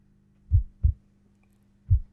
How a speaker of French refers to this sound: Tu les entends, mes battements de cœur? Sont-ils si différents des tiens? Ça se passe comment, toi, quand t'as peur? Moi, ça bastonne à l'intérieur, ça tambourine à grands coups de poing.